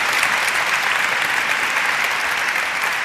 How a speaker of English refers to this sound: Thank you so much for coming out to the Boston Book Festival. And let's have a big round of applause for how well it's going.